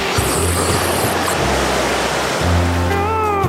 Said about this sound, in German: Ein bisschen Strandmusik, dazu Meeresrauschen.